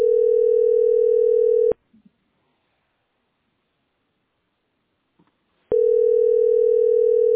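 A loud, steady telephone dial tone hums for under two seconds, cuts off into near silence with a couple of faint clicks, then returns just as loud at the end.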